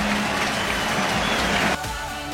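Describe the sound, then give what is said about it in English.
A baseball stadium crowd at a Brewers game against the Pirates roars and cheers after a strikeout, in a steady, loud wash of noise, then the sound drops off abruptly to a quieter murmur near the end. No one speaks. “Listen to this crowd.”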